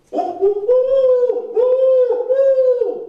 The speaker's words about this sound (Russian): Ух ты, не успел от околицы отойти, а уже филина слыхать. День с ночью, видать, перепутал. Ишь, разбойник полуношный, не страшусь я тебя и не ухай тут.